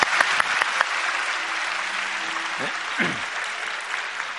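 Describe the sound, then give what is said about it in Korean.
A church audience applauds steadily, a dense, even wash of clapping with a few sharper claps early on and faint murmurs of voices underneath, holding at a moderate level throughout, to bless and encourage two high-school siblings who had played trombone and saxophone. “우리 박수로 축복하고 격려하겠습니다.”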